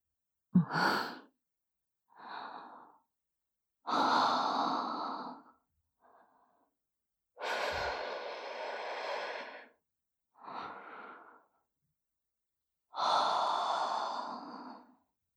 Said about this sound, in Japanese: 吐息を吹きかけられただけで、惨めにザーメンを漏らして、本当に哀れね。